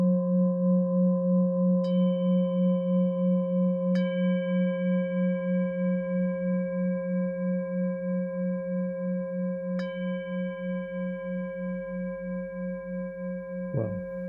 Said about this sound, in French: 1 kg, 190 pour ce bol tibétain brut, tonalité fa dièse. D'abord frappe mayoche. Beaucoup de puissance vibratoire, beaucoup de sustain. Richesse harmonique, on va l'écouter.